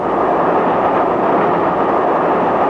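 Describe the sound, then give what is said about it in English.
Train wheels rattle over crossover points 1 mile south of the Clayton Tunnel on the London, Brighton and South Coast railway inside a steady, loud rolling rumble as the train sways slightly, with the clatter merging into a continuous roar and no voices. “Did you hear that rattle of the wheels just now?”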